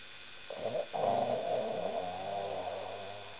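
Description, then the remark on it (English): A man who fell asleep while praying snores heavily, a long rasping, rumbling inhale that swells and holds for a few seconds over a faint steady hum, with no talking. “The man had fell asleep praying, snoring.”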